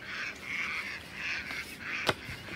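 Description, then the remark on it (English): Ducks quack in a steady run of raspy, overlapping calls, with one sharp knock or clatter near the end and no voices. “Shh. I'm trying to read the tasks, ducks.”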